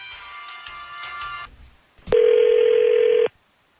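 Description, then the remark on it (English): A phone call being placed live on the radio station 102.9 The Wolf: a buzzy line tone hums for about a second and a half, then a click and a single loud, steady ringing tone for over a second, with no voices. “So we're hopefully he'll answer the phone when we call.”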